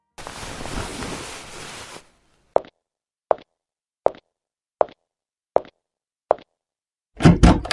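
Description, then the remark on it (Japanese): After a stretch of steady noise, six evenly spaced sharp thuds sound, followed by a loud, rushing burst as a door swings open. No one speaks. “あれ、私まだ扉なんて。”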